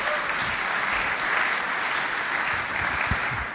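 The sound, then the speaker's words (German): Steady applause from a crowd, a dense even patter of many hands clapping at a constant loudness for the whole few seconds, with no voices over it. “Kann man mal kurz, Zwischenapplaus, kurz bitte erwähnen und Franzi.”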